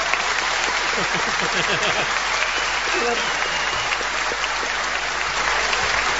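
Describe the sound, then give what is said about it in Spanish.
A steady wash of crowd noise from people outside watching on a screen, asked to greet: applause-like clapping and cheering blended with indistinct shouting voices, holding at an even level for several seconds without clear peaks. “A ver, vamos a decir silencio acá adentro y a gritarle, a decir, pedirle a los de afuera que saluden.”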